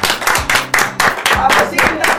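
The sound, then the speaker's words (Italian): Loud, steady applause for a town's mayor on Radio Dinamo, with rhythmic bursts of clapping, overlaid by a low murmur of voices throughout. “Allora, un applauso a questo sindaco!”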